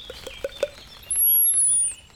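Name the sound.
common whitethroat song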